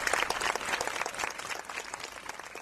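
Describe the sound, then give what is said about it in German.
A concert audience applauds steadily, dense overlapping claps forming a continuous crackling wash that stays strong throughout, slightly easing toward the end. “Das Plätschern der Fontäne stillt nicht, es wird geredet, gerannt und vor allem laut applaudiert.”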